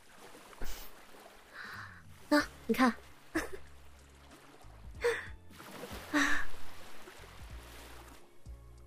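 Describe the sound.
Sea waves wash in at the seaside with soft, noisy surges that rise and fall a few times, while a woman briefly exclaims and speaks over the water.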